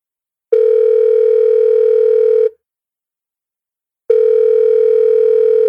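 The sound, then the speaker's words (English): A telephone rings with a loud, steady electronic tone, two long two-second rings separated by a pause of about a second and a half, with no voices. “Oh, that might be Miss Freckles calling back about her important news.”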